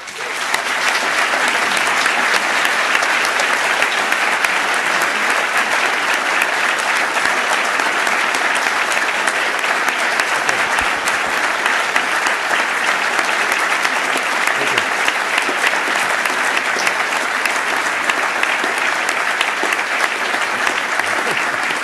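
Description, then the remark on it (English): Sustained, dense applause from a large university audience welcoming and thanking donor Tom Golisano, loud and steady for about twenty seconds with no break, a wash of many hands clapping at once. “We didn't win the Stanley Cup, so you don't have to applaud.”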